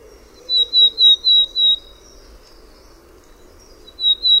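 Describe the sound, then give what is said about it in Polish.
A willow tit sings a short series of five clear, evenly spaced single-syllable whistles, pauses, then starts the same repeated note again, with a faint low background hum throughout. “A teraz znów piosenka Czarnogłówki.”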